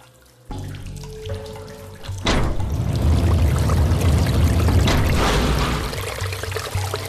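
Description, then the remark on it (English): Water gushes and gurgles steadily for several seconds with a low, rumbling churn as it bubbles under a heavy sec door through a 6-inch gap, swelling in quickly after a brief hum and fading slightly toward the end. No one speaks. “The water started to drop, bubbling under the heavy sec door, through the 6-inch gap that Ryan had left for it, dropping until it wasn't much above the knees.”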